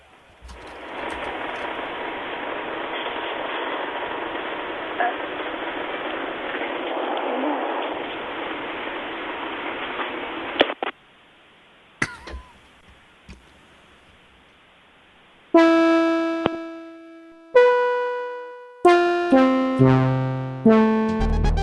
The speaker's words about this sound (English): That's the sound a Komodo dragon makes, by the way. Can we hear it one more time, just to make sure? Definitely it, yeah.